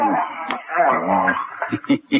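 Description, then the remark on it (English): A dog whimpers in a drawn-out, whining tone, then lets out three short, sharp yips in quick succession, fairly loud. “Best dog I ever had.”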